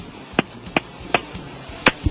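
A series of sharp, crisp hand slaps, about six in all, spaced unevenly with the last few coming in a quick cluster, each a short loud smack over a quiet background with no talking.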